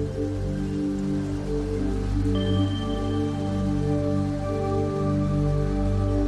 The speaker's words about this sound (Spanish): Te da igual mojarte un poco por la lluvia. Ya habrá tiempo para secarse.